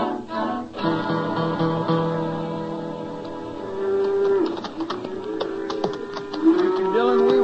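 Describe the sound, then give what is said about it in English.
A herd of cattle moo in long, drawn-out bellows that overlap one another, fairly loud, with no one talking. “ever heard of cows we come across. Now, this is a bunch I wanted to see”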